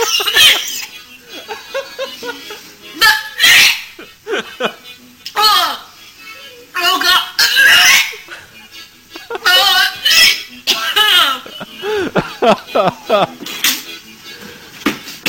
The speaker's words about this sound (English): She's a great gagger. Can you hear the vomiting in the background?